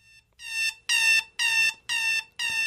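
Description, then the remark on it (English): An alarm clock rings in loud, harsh bursts, five evenly spaced pulses with short gaps between them, piercing with no voices. “Here's the classic alarm clock.”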